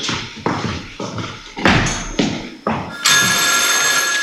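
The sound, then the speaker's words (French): A series of sharp, evenly spaced thumps gives way to a loud, sustained telephone ring with a bright, buzzing tone that continues to the end, with no talking. “Mais c'est quand il y a des coups de téléphone statiques.”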